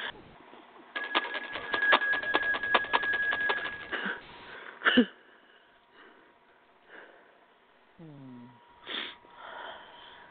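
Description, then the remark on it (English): A bell rings rapidly for about three seconds, its quick repeated strikes blending into a bright, sustained tone, heard over a thin, phone-like line. Softer scattered sounds follow. “Can you ring a bell?”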